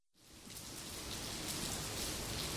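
After a split second of silence, a steady downpour of wind and rain rises into a dense, even hiss that holds without a break. No voices.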